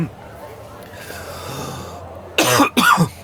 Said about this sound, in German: Ich glaube, ich muss schon husten, weil so viel geraucht wird in der Bar.